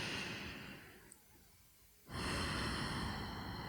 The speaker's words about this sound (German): Ich weiß, das ist für manche Menschen manchmal ungewohnt, bewusst in den Bauch zu atmen. Ja, das kann man immer daran erkennen, dass man wirklich in den Bauch atmet, dass der sich auch hebt und senkt, fühlbar.